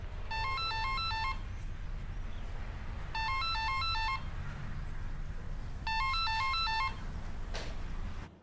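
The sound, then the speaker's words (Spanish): A phone rings in three repeated electronic bursts, each about a second long with pauses between, over a low background hum; nobody picks up and no one speaks. “No cogen el teléfono. Ya se han ido.”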